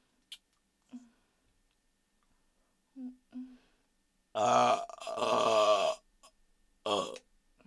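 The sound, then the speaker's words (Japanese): After a few faint mouth noises, a loud, drawn-out, gravelly burp rumbles for over a second, then a shorter second burp follows. “もっと大きくて下品なゲップじゃないと君は満足できないもんね。”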